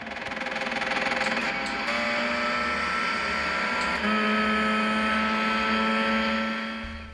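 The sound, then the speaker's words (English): The loud, continuous engine of a Porsche 919 Hybrid race car of the Porsche team at Le Mans in 2016 drones steadily, its pitch stepping up in distinct shifts as it accelerates, with a harsh mechanical whine and no voices. “Today's transition effects come to you live from the engine of a Porsche 919 Hybrid from the Porsche team at Le Mans in 2016.”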